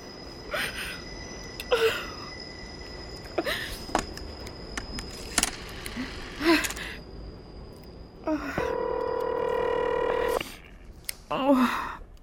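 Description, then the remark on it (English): A telephone is dialed, with a series of short clicking bursts spaced a second or so apart, followed by a steady ringing tone of about two seconds. “Oh, please answer the phone.”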